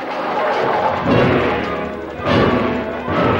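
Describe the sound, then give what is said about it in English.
A flimsy wooden barricade in a hallway is knocked over by a lurching creature, crashing in a dense, clattering rumble, with two heavier thuds of toppling wood about a second apart amid the continuous racket. “He knocks over a flimsy barricade and lurches toward them.”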